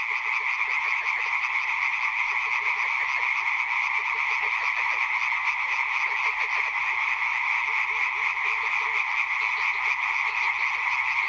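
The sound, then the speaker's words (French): A dense chorus of frogs croaking loudly and continuously in the daytime in spring, many overlapping calls forming a steady rhythmic din, strong throughout with no voices. “Et les grenouilles chantaient très fort et en pleine journée, d'ailleurs, ce qui m'a beaucoup surpris.”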